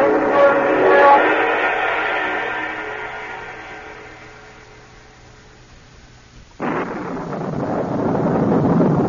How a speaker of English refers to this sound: Well, I guess the car's in one piece. That lightning couldn't have missed me by 5 feet.